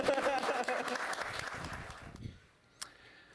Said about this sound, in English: We all wanna clap, so we're just gonna clap.